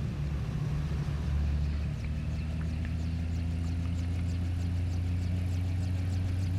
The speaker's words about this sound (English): The sand shifts as the car moves.